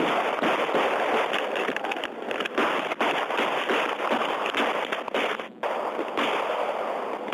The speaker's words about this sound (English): Twelve gunshots.